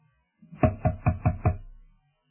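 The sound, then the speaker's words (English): Five soft, evenly spaced knocks on a wooden door in quick succession, moderately quiet, with no voices around them. “He can knock down the door in a minute, but he raps on it gently because he wants you to open up and welcome him in.”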